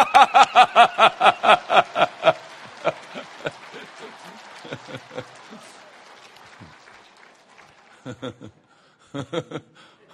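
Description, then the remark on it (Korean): A crowd claps together in a quick, steady rhythm for a couple of seconds, then the clapping breaks apart into scattered claps mixed with hearty group laughter that trails off. “자, 한바탕 박수 치면서 또 웃고 시작합시다.”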